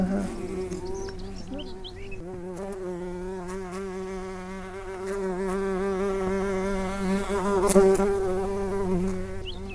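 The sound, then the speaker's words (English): A dense, steady hum of many bees buzzing around a hive in the Marble Arch Caves Geopark, the drone wavering slightly in pitch as individual insects pass by, swelling a little louder toward the end, with no voices. “The sound of nature's dreaming is the hum of bees and the audible activity of the hive.”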